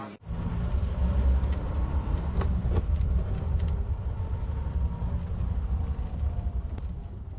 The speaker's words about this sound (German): steuert den Wagen auf einem endlosen, unbefestigten Weg durch die Nacht, tief und tiefer in den Krater des Tagebaus, im Nirgendwo zwischen Zittau und Görlitz.